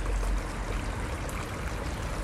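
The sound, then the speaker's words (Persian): A hotel's water fountain splashes steadily, a dense, continuous rush of falling water with no pauses, fairly loud and even throughout, with no voices. Its basin holds a statue of two men holding another man who seems wounded. “صدای فواره و صدای کلیک دوربین عکاسایی که امروز از خلوتی شهر استفاده کردن اومدن از معماری شهری عکس بگیرن با گهگداری صدای ماشینا.”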